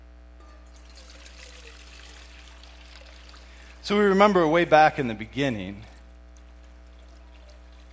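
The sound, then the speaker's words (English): Water pours steadily into a small baptismal font for a few seconds, a soft continuous splashing trickle, then stops as a voice begins speaking. “And actually, I have our little baptismal font up here and some water.”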